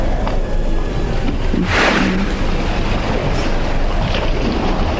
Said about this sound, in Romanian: Acum valuri și alte valuri vin.